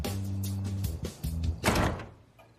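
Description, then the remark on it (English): A heavy mansion front door groans open with a low, drawn-out creak, creaks again, then shuts with a solid thud that quickly fades into quiet. No voices. “Becca and Ron walk to the mansion's front door, then enter.”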